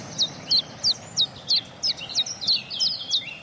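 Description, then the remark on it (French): A common chiffchaff sings a steady series of bright, sharp two-pitched notes repeated about three times per second, clear, over a faint background hiss, in the Baie de Somme. “toujours en baie de Somme, en compagnie du pouillot véloce, cette fois-ci.”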